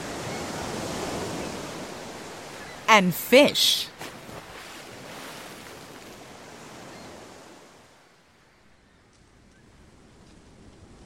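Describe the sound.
Steady wash of ocean surf fills the first eight seconds, a broad rushing roar that then fades to near quiet, with a brief spoken phrase rising over it midway.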